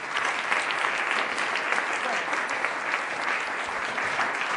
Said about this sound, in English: so why don't we take a moment and give her a little round of applause.